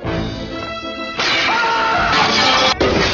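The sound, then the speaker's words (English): A loud, bright crash of a glass window pane shattering as a movie character breaks through it bursts in after a brief tonal passage, its noisy spray lasting over a second before a short pause and another burst. “movie characters from over 50 films, including Airplane and Scott Pilgrim vs. the World, jumping, crashing, diving, and just plain breaking through window panes”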